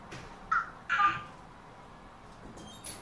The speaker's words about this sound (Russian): Этот ворон, он говорит Ра-кра, Ра-кра. Только плохо, все только плохо, он говорит.